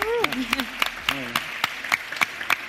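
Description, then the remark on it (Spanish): Applause from an audience welcoming a cybersecurity communicator as a guest on a show. Sharp claps come at a steady rhythm over about three seconds, with voices talking and murmuring underneath. “Bienvenida a lo que viene y un aplauso también”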